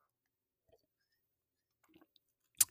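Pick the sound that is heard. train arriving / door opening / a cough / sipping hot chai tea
sipping hot chai tea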